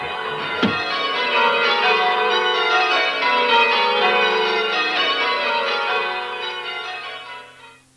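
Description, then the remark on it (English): A church bell, rung by a man, peals continuously, rich overlapping tones ringing out loud and steady for several seconds before gradually fading away. No voices are present. “He's ringing the bell so all Ambridge will know.”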